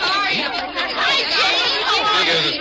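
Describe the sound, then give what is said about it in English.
A crowd of teenage fans scrambling for the ticket booth as the doors are opened, with a loud, steady wash of many overlapping excited voices and shouts, no single speaker standing out, sustained throughout. “When they open those doors out there, there's a mad scramble for the ticket booth.”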